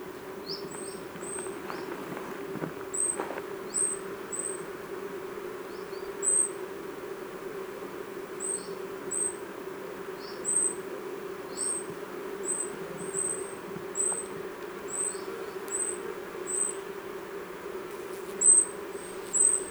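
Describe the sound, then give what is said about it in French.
A steady, low buzzing drone of bees foraging everywhere in the sunshine at 11 a.m. runs through the whole clip, while thin, very high calls of a treecreeper repeat above it at irregular intervals. No one speaks. “Il est maintenant 11h avec le soleil, ça butine partout.”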